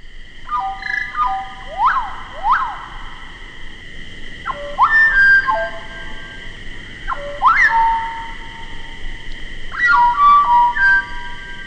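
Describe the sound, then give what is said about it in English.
Slowed-down song of the slate-colored solitaire, a bird of the Mexican cloud forest: pure, drawn-out whistled notes with sliding rises and falls, delivered in several spaced phrases over a steady ringing tone, with no voices. “To fully appreciate the song, Chapman suggested that it be slowed so the notes can be heard more clearly.”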